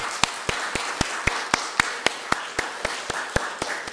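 Audience applause with one sharp, evenly paced clap standing out about four times a second over a steady wash of noise, holding a constant level throughout with no voices.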